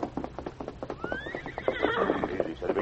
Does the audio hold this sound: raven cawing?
no